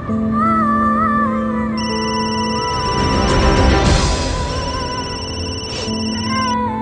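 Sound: mobile phone ringing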